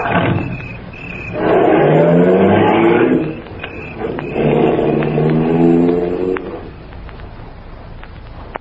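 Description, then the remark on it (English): Car engines rev hard and roar off in two loud, sweeping bursts, the second fading into low rumble and traffic noise as the vehicles pull away down the street. “Roar after me like we're going someplace.”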